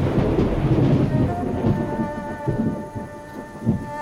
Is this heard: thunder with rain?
yes